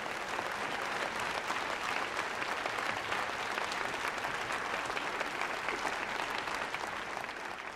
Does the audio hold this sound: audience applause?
yes